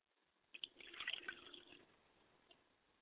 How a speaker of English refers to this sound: I pour a glass of water for my mother and I say, Ashe, mother, Yamenja.